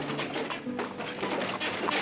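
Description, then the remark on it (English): The wooden wheels of a peddler's wagon roll steadily up a rough road, a continuous rattling rumble broken by irregular knocks and faint hoof-like clops, with no one speaking. “That was when they heard the wooden wheels of a peddler's wagon coming up the road.”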